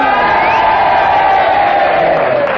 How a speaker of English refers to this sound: And if you agree with Henry, which is a negative challenge, then you all boo, and if you disagree, you all cheer for Kenneth, and you all do it together now.